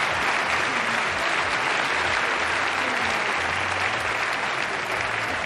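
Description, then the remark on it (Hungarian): Sustained audience applause after a salute at a self-defense technique demonstration, a dense, steady wash of many hands clapping at an even loudness throughout, with no voices standing out above it. “Jól tűrik a tapsot is az ilyen tisztelgés után.”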